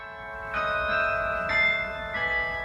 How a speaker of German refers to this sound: Wenn das Glockenspiel der Parochialkirche zu hören ist, entsteht im Klosterviertel von Berlin gleich hinter dem Roten Rathaus ein Altstadtgefühl, jenseits autobahnartiger Pisten und hinter den Betonhochhäusern des Alexanderplatzes.